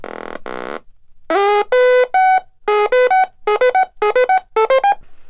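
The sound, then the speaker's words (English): A Little Bits synthesizer of snapped-together modules (power bit, oscillator, speaker, keyboard, sequencer): a buzzy electronic synth tone sweeps briefly, then a sequenced pattern of bright harmonic notes plays in a quick stepping rhythm, rising and falling in pitch, loud and alone with no voices. “Add a sequencer.”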